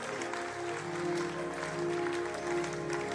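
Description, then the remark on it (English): An audience claps steadily throughout, a dense, continuous wash of applause mixed with sustained keyboard or organ tones humming underneath, with no clear talking. “Oh, your clapping is... Does it?”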